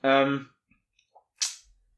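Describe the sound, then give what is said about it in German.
A short voiced sound fades, then a few faint ticks lead into one sharp hammering knock from the neighbours at about 9 p.m., loud and bright, that dies away quickly. No rhythmic series, just a single blow. “Hier wird gerade geklopft, gehämmert.”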